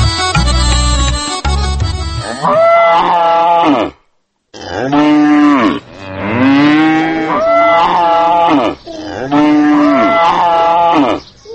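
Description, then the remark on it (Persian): Cattle moo repeatedly and loudly, long drawn-out bellowing calls with a short pause between, preceded by a brief burst of clattering noise, at cattle kept by women in Qala-e Sheikhak village, Logar province, Afghanistan. “چند روز پیش راهی ولایت لوگر شدم و خواستم گزارشی از کار و فعالیت زنان آن ولایت در بخش گاوداری و فروش محصولات گاوهایشان تهیه کنم.”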